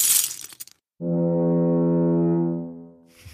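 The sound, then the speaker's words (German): A single loud foghorn blast, a deep, steady droning tone held for nearly two seconds before fading, preceded by a short noisy rush of sound. “Das ist das Nebelhorn.”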